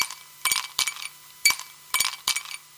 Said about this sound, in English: Ice in a glass is absolutely absolutely correct